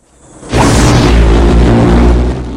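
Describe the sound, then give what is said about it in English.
After a brief quiet moment, a man on a house porch fires a sudden barrage of rounds into the wooden house walls, knocking boards out, in a dense, loud, booming roar that holds steady for about two seconds before easing slightly. “He fires off rounds, knocking wooden boards out of the house walls.”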